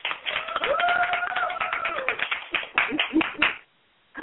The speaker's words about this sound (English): I want to thank all of my staff for being here and how they have set everything aside to make sure we have a good time. So let's give our staff a round of applause.